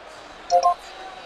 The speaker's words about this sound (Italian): Ah sì, era la fine della sintonia del programma che uso per il digitale. Però ha trovato molti meno canali del solito.